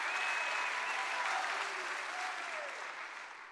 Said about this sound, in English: Church, you are the miracle. Give God a hand clap of praise for all that He has done and all that He is doing by His amazing grace in Jesus' name.